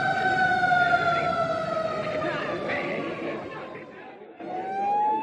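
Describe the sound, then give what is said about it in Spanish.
A loud fire engine siren wails steadily as firefighters arrive at a scene crowded with onlookers, its pitch sliding slowly downward before starting a fresh rising sweep near the end, over a busy background of street noise and crowd chatter. “Llegaron los bomberos.”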